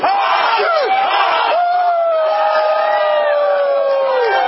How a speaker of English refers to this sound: You better pace yourself there, buddy. He's still screaming.